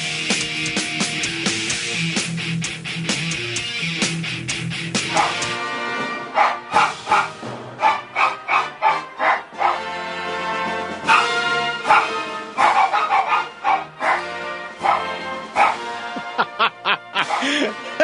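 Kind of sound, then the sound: animal, dog barking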